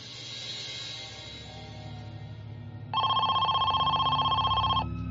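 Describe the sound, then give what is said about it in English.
A telephone rings loudly in a fast, trilling burst lasting about two seconds, rising out of a low background hum and stopping abruptly. No one speaks. “They hoped this would be the call that could secure Amy's release.”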